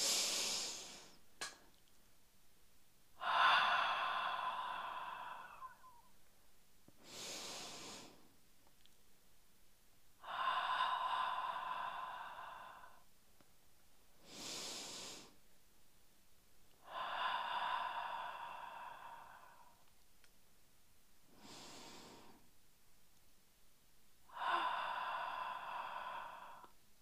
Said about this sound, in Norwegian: Vi begynner med å puste inn. Pust gjerne ut med åpen munn. Inn med nesa og ut gjennom munnen. Ok? Pust godt inn.